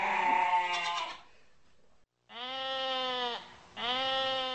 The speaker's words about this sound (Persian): یه روز بعد از اینکه ناهارشو خورد زیر درخت دراز کشید تا کمی استراحت کنه. هنوز چشماش گرم نشده بود که با صدای بابای گوسفندا از خواب بیدار شد.